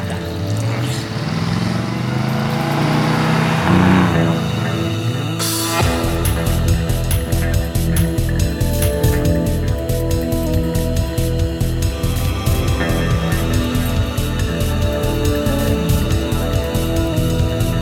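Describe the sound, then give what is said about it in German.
A car engine starts up and settles into a steady, rhythmic drone as the vehicle drives off, setting out for Reno, loud, with no voices. “Ich fahr schon mal los.”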